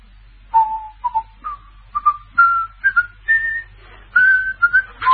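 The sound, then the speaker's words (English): A person whistles the Sky Boat Song, a slow melody of clear rising and falling notes with brief pauses between phrases, over a low steady hum and no talking. “Yes, he was whistling. Sky Boat Song. Catchy tune, isn't it?”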